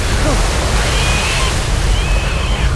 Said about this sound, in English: What's that? What? I hear something. It sounds like a wave.